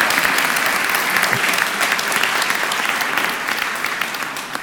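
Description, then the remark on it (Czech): Sustained audience applause, a dense crackle of many hands clapping at steady loudness for several seconds, with no voices breaking through, given to the show's sound effects section. “Potlesk pro ně.”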